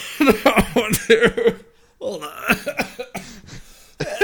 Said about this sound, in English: Oh, you made me laugh and I had to cough.